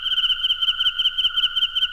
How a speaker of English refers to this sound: Chirp. That's the only like steady percussive element here. Yeah, you mentioned the crickets.